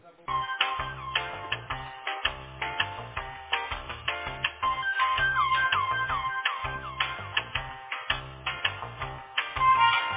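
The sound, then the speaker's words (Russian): A phone ringing tone plays while a call is being transferred to an office: a tinny electronic melody of repeating bright notes in a steady rhythm, continuous and moderately loud, with no one speaking. “Давайте я сейчас переведу, там девушка в офисе вас сориентирует.”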